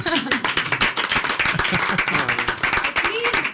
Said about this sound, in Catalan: Y bueno, no os pongáis a llorar, ¿eh? Tenéis que... Podéis aplaudirme.